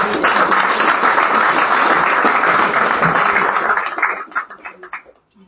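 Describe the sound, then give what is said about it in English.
A crowd at a city council meeting in Lake Coeur, Kansas, applauds newly sworn-in council members with dense, steady clapping that holds strong for about four seconds, then thins into a few scattered claps before stopping. “How about a round of applause for all of you guys?”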